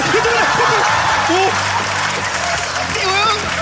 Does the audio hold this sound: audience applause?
yes